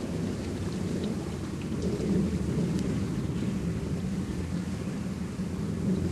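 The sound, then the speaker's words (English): A thunderstorm with steady heavy rain and a deep, rolling rumble of thunder underneath, loud and unbroken throughout, with no voices. “This tempest will not give me leave to ponder on things would hurt me more.”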